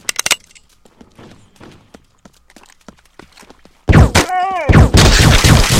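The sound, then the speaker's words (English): A brief blast of MP5 submachine gun fire in a video game opens, then after a quiet stretch a loud, sustained rattle of automatic fire erupts, with a rising and falling whining tone briefly cutting through the middle. “Gotta reload my MP5.”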